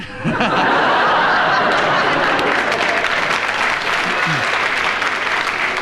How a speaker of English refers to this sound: As the audience have applauded your thoughts and your comment, we will give you a bonus point, Kenneth,